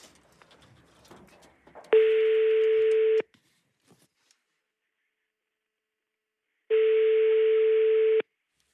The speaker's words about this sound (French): Deuxième sonnerie. J'espère qu'il est joignable.